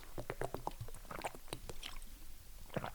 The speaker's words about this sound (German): Ach Mensch, ich muss kurz einen Schluck Wasser trinken.